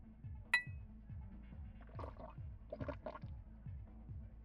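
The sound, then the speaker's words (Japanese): A single bright clink of glasses touching in a toast rings out near the start, followed by soft liquid sloshing sounds over a quiet, steady low rhythmic background. “それでは一人寂しいお兄さんとの出会いに乾杯。”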